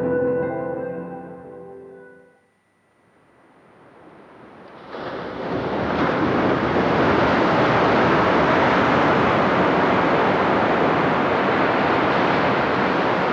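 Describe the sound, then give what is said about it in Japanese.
A brief musical chime fades out, then the steady rush of waves washing onto the beach at Nakahama in Yamamoto town, Japan, swells up and stays loud and continuous, a broad roaring wash with no voices. “もうこのところシリーズでお伝えしています、10年後の渚です。今日は山本町の中浜です。”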